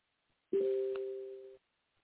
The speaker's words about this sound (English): that's your phone, not my phone. I'm still on the air. No, that's my notification for somebody. You know how these things work now. They notify you if you're not there.